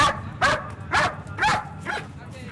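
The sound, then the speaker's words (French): A working dog barks repeatedly in a steady rhythm in southern Lebanon, five sharp barks spaced about half a second apart, moderately loud over a low background rumble. “Le chien aurait dû être en liberté pour travailler à l'initiative, parce que si vous voulez, entre les jambes, il ne peut pas aller sentir au pied des caisses C20 pour voir s'il y a de l'odeur.”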